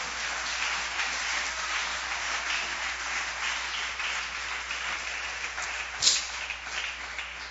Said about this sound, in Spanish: Oh, a su nombre, iglesia. Dele ofrenda de palmas al Señor, hermano.